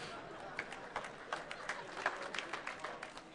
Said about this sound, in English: That was not supposed to get applause. All the rednecks in the audience have identified themselves.